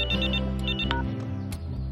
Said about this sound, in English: He looks at his ringing phone.